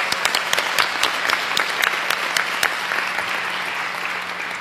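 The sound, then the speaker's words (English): Steady applause from an audience for a colleague awarded ASCLA's Kathleen Bourdon Service Award, a dense wash of many hands clapping at once, with sharper individual claps standing out. “So let's give her a big round of applause for all her work.”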